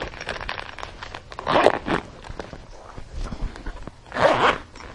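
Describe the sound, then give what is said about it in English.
A backpack zipper is pulled in a few quick rasping bursts, with two louder, longer zips around the middle and end, as the backpack is closed with a camera inside, with no talking. “You want to put the camera back? And zip it up?”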